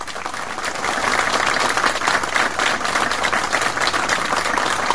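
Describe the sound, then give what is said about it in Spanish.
Sustained applause from an audience, a dense, steady wash of many hands clapping at once, fairly loud and even throughout with no voices standing out. “Así que a ellos, muchísimas gracias por todo el trabajo que hicieron, y me parece que ellos se merecen un aplauso.”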